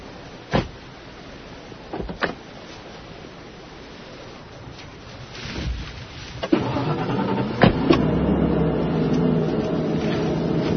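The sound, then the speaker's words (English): A few sharp clicks over a steady hiss, then a car engine turns over and settles into a steady low idle that rumbles on to the end. No one speaks. “Kill the engine.”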